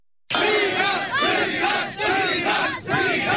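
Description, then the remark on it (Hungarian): A large crowd chants "freedom" in unison at the Hungarian-Serbian border in 2015, loud and sustained, the repeated shout rising and dipping in regular waves of many voices together. “Szabadságot, ezt skandálták 2015-ben a magyar-szerb határon.”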